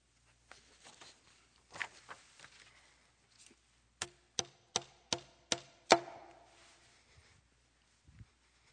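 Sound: clock ticking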